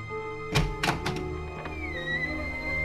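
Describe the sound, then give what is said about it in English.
Four or five dull, hollow knocks on a door, made by a tree branch blown by the wind, land in an uneven cluster, then stop, while a soft steady musical tone hums underneath. “The wind blew its branch and it knocked on the door.”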